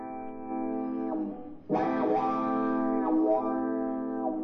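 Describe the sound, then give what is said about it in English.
A pedal steel guitar mimics a train whistle with sustained, layered chords that slide and bend in pitch, swelling louder after a brief dip, with a wailing, slightly distorted tone and no voices. “And if I listen real close to Chuck's pedal steel guitar, I can hear that train whistle blowing right now.”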